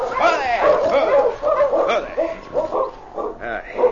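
Several sled dogs of a dog team bark, yip and whine together in a restless, overlapping chorus, fairly loud, with high whimpers rising between the barks throughout, in thick snowfall at the edge of Deer Creek.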